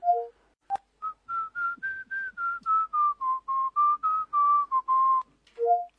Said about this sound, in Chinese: 我在呢，口技真好玩，吹口哨和 B-box 我都学会了。 吹个口哨听听。再吹个口哨听听。